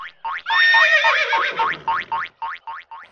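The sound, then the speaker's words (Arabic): A horse named Faris whinnies loudly: one long, quavering neigh that breaks into a rapid string of short, bouncing calls, with no talking. “الحصان فارس رأى الولد البسكويت.”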